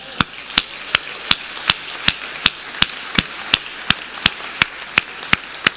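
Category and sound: crowd, audience clapping hands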